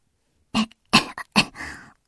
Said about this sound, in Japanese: ちょっと咳が出て、喉イガイガするって感じだけだから。